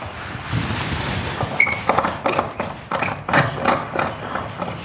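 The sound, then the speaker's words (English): A water tap being turned off: a steady hiss of running water gives way to several sharp knocks and clunks from the handle and pipes, with no one talking. “That's me turning the water off this time.”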